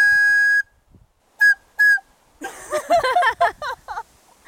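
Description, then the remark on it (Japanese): A whistle blown outdoors on a mountain to try for an echo gives one long, steady blast, then two short toots, loud with little echo; a jumble of warbling, voice-like sounds follows. “あれ、笛の音はあまり響いてない。”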